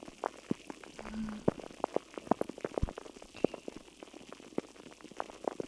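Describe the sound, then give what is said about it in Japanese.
Carbonated drink fizzing with a dense, irregular crackle of tiny pops, steady throughout and resembling meat sizzling on a hot griddle. No one speaks. “炭酸の持つ力恐るべしです鉄板の音どうですか。焼肉のような音に聞こえますか。”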